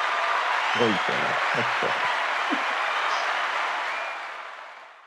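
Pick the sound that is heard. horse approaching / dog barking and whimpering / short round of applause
short round of applause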